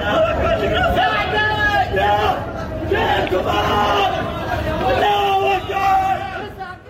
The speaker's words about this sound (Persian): داد و فریاد مردمه که ملتهبن و دارن زخمی ها رو سعی میکنن به بیمارستان منتقل کنن.